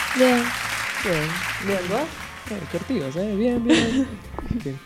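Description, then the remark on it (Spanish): Applause rustles steadily through the whole moment, a dense bed of clapping beneath several voices talking and calling out with rising, lively inflections. “Aplausos, aplausos.”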